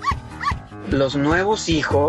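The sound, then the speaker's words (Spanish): Two quick, loud dog barks in a row, followed right after by a person speaking. “Perros.”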